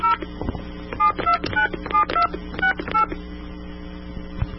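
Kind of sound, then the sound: signal or alarm, touch-tone telephone dialing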